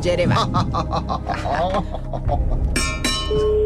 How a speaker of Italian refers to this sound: Ecco. Squilla, c'è qualcosa.